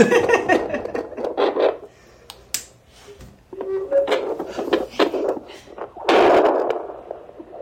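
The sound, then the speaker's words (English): Scratchy fetal doppler static crackles and whooshes in uneven bursts, with brief warbling tones and clicks breaking through the rough white-noise hiss, loudest near the end, as a perinatal nurse listens for a baby's heartbeat on an expectant mother's belly at a public health office on Alfred Avenue in Smithers. “It makes really funky sound when the jaw goes on. I'm really excited to like, get this. White noise, but less pleasant.”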